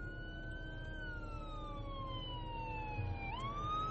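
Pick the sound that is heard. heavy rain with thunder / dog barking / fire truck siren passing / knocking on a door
fire truck siren passing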